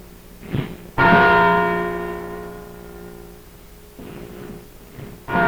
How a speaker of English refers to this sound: And now let us go for a minute to the belfry of Independence Hall and listen to the replica of the Liberty Bell as it tells the world that Edison's light has been born anew.